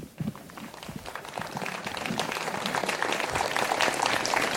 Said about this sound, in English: Fällt es euch schwer, da zu klatschen? So, is it difficult for you to applaud here?